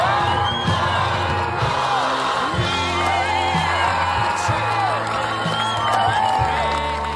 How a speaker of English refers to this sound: On Wednesday evening, Clonmel's Dara Lynch was welcomed back to his hometown with thunderous applause. Hundreds of locals filled the Kickham Plaza to welcome home the town's first Olympic medal winner since 1932.